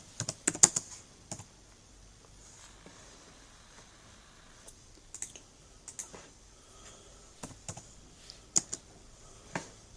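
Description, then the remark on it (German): Keys clatter on a computer keyboard in short irregular bursts of sharp clicks with pauses between, moderately quiet, no voices. Someone is retyping text into a new Word document. “Ich glaube, der hat gerade so ein anderes Word-Dokument aufgemacht und tippt einfach alles nochmal ab.”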